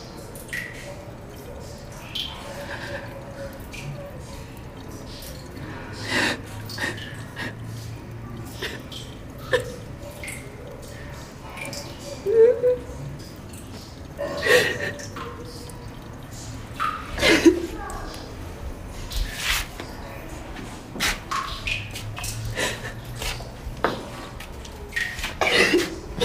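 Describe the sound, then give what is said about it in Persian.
Stifled, muffled sobbing of a mother in a bathroom, holding her hand over her mouth so her crying is not heard outside, with short choked catches and sniffs breaking through irregularly over a quiet background. “جلوی دهانش رو میگیره تا صدای حقیق گریش بیرون از دستشویی نره”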